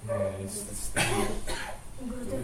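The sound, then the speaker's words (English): Two sharp coughs in quick succession, about half a second apart, with a person talking just before and after them. “I should have taken my cough drops this morning.”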